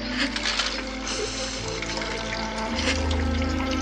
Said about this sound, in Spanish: En Inglaterra, Mary llora mientras bombea agua sobre un balde.